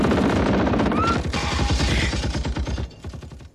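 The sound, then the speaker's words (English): Loud, rapid bursts of automatic gunfire fired from a car rattle on almost without pause for a few seconds, a dense, sharp clatter that eases slightly at the very end. “Watch out! That car, they've got guns!”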